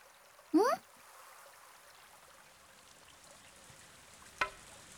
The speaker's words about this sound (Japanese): あ、ちょっと雨が降ってきたね。パラパラとしか降ってないけど、今は冬だしね。